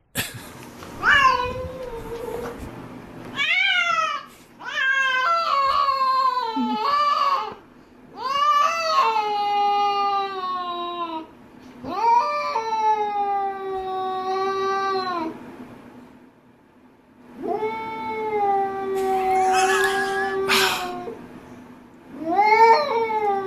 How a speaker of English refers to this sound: Well, she said they had cat sex. Which, let's just get a reminder of what that sounds like.